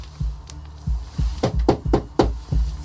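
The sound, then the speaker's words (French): Someone knocks on a door, a run of about eight solid raps, sparse at first, then quicker and more insistent. The knocks sound close and fairly loud, with no talking. “Ouais, ça doit être sa porte principale, ça.”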